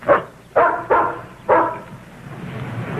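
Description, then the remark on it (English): A dog barks four times in quick, uneven succession, the barks loud with a slightly strained, whiny edge, followed by a low, quiet background hum. “Dumb old dog.”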